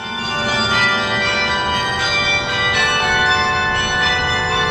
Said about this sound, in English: The 120-foot tower holds 48 bells, a carillon of instruments ranging from 29 pounds to 2 tons. In full force, a concert can be heard for miles.